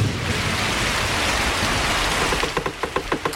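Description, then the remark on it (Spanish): Heavy rain pours in a dense, steady hiss with a low rumbling undertone like thunder, and a quick series of rhythmic knocks joins in near the end. “El cielo se rompe. Empieza a llover como si alguien hubiera dejado el grifo del universo abierto.”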